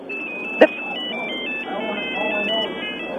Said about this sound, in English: Yeah, I'd like to, but the phone's interrupted me.